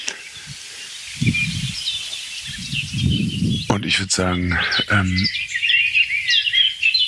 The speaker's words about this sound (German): Also es ist nichts Heftiges zu hören. Es gab jetzt ein paar Warnrufe kann man die noch nicht mal nennen. Ein paar Schimpfer von der Singdrossel. Und vorhin ein paar heftigere Dinger von der Amsel.